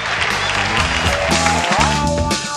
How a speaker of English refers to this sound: Then that's where you cue the cheering.